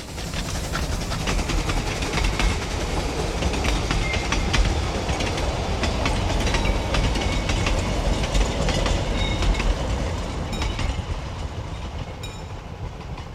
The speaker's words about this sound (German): Der Zug fährt hier Punkt 5:09 vorbei.